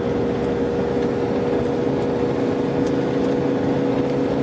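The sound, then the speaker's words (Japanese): A steady, loud engine drone from inside a moving Mercedes bus that is being driven roughly, with a low rumble and a constant mechanical hum that persists without pause. “私は今かなり運転の荒いベンツのバスに揺られています。”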